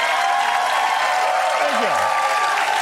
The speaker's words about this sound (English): Thank you for clapping for that, man.